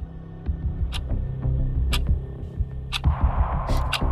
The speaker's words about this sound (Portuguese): Estás a ouvir o tic-tac?